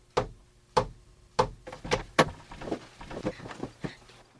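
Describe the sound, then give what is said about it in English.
Three loud, evenly spaced knocks on a door, then a quicker flurry of softer, uneven raps that taper off. Sharp, with no voices. “Someone is knocking on the door.”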